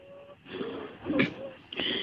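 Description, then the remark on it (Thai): A voice imitates the wheezing of an asthma patient breathing hard: a few strained, labored breaths, each carrying a thin, high whistling tone from the mouth, moderately loud and with no words spoken. “เออซึ่งในชีวิตจริงแบบเวลาเจอคนไข้หอบเยอะๆมา ER ก็คืออย่างนี้จริงๆคือแบบจะแบบหอบเยอะๆแล้วหายใจก็จะมีเสียงเนี้ยเสียงวีดๆอย่างเงี้ยออกมาจากปาก”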